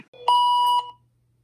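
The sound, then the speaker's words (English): A single steady electronic beep, a clear mid-pitched tone held for about half a second with a sharp start and a quick fade, sounding alone. It is the 10-second warning signal at a ski race start gate, heard as the racer sets poles and stomps skis into the ground. “You hear the 10-second warning as you set your poles and stomp your skis into the ground.”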